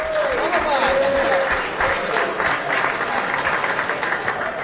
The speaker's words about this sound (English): How about a round of applause